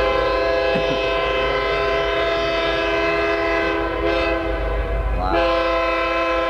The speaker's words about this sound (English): Two longs, one short, one long through the crossing. That's the standard signal.